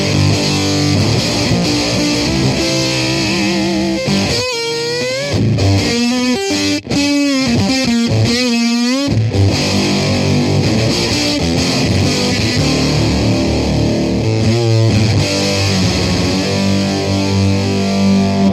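A loud electric guitar played through a gnarly distortion pedal, riffing with thick fuzzy chords and wavering string bends in the middle, sustained and saturated from start to finish with no voices.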